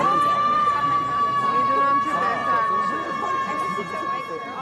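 A single long, high-pitched scream by Polish-Belarusian activist and artist, held at a steady pitch for several seconds, rings out loudly outside the Festspielhaus during the first interval of the Theatertreffen, around 6 pm in summer weather, over the murmur of a chattering crowd.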